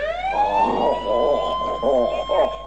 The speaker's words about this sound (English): Hey, mister, can I run the siren? Sure, Dennis. Dennis turns it on.